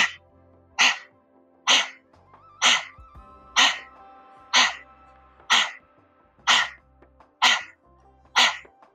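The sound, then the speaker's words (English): Nine forceful, huffing exhales of breath-of-fire panting, done with the tongue stuck out, repeat at a steady pace, about one per second, each sharp and breathy, fairly loud over a soft, low background hum. “And now we're going to do doggy panting. We're going to stick our tongue out and do the breath of fire.”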